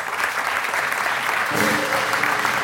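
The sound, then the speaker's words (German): Dense, steady applause from a crowd at a finale fills the whole stretch, loud, with a brief raised voice or cheer rising through the clapping about halfway through. “Und ihr kriegt einen großen Applaus für das Finale hier, was wir auf die Böen haben.”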